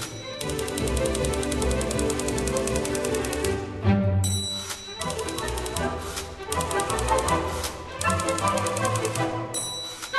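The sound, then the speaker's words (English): Rapid, steady clacking of a typewriter played as a musical instrument rides over a lively orchestra, with a bright carriage bell dinging at phrase breaks before the typing resumes on the beat. “has played a few typewriters himself on the concert stage, and he says it's hard”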